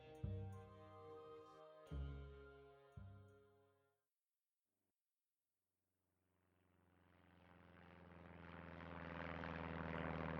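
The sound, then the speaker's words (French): A propeller airplane engine, on a plane arriving in the land of KM, drones loudly with a steady low hum that cuts out twice, falls silent for a couple of seconds, then roars back and builds steadily louder. No one speaks. “Le jour J, Capucine arriva sur les terres de KM et à peine sortie de l'avion”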